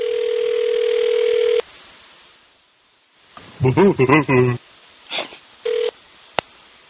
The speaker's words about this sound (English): She's just hanging up the phone now.